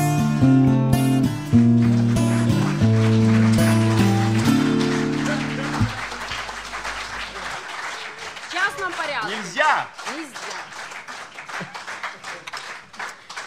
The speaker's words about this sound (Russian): Давайте еще раз подарим аплодисменты нашему гостю